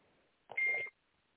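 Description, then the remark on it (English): A phone's text message alert sounds once: a short, steady, high-pitched electronic beep lasting under half a second, clear against an otherwise quiet background. “Okay, Carmen just texted me.”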